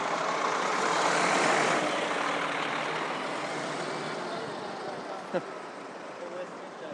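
A bus rumbles in amid street traffic, its broad engine roar swelling loudly over the first two seconds, then settling into a steady drone, broken once by a brief sharp click.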